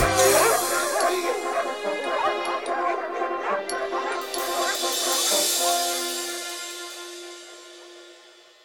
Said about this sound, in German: Die Hunde blieben bald zurück und ihr Bellen wurde immer leiser.